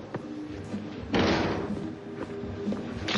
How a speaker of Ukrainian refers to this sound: на екрані в туалеті з'являється лисий чоловік з пістолетом в руці. Люто вигукуючи, він стріляє в лежачого чоловіка.